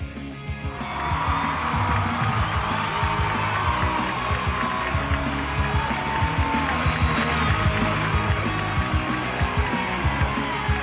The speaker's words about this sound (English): Yeah, I like to turn up the applause. Oh, I know you do. Oh, can you even hear me? Come on, people. Give it to me. I'm still somebody. I still got it. Yeah, keep it coming. I just like when people clap for me